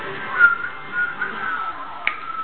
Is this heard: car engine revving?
no